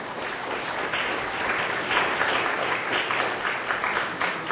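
An audience applauds steadily as a speaker comes up to share a personal faith story, a dense wash of many hands clapping at once that holds an even, moderately loud level throughout with no voices rising above it.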